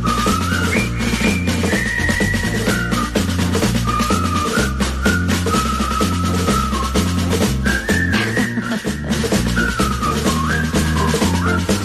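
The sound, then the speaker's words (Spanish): A jaunty march melody from a film soundtrack is whistled loudly and clearly over a full band accompaniment with a steady, marching bass rhythm, continuing for the whole stretch without any talking. “Que levante la mano quien ha silbado esto alguna vez.”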